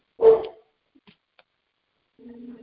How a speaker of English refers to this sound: And I'm going to mute myself really quickly because my dog is barking.